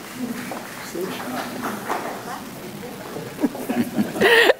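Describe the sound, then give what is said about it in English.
An audience at a city council meeting claps steadily for several seconds, a dense patter of hand claps with voices murmuring underneath, and someone speaks up more loudly as the applause ends. “Feeling pretty special about those claps.”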